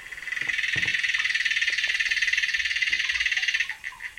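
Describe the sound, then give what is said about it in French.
A continuous, rapid buzzing trill of an aquatic water bug recorded underwater with hydrophones, steady and cicada-like for several seconds before breaking into a few stuttering pulses; fairly loud, with no voices. “Voilà, c'est une vraie cigale, c'est incroyable. Hein. Et en fait, c'est une punaise aquatique.”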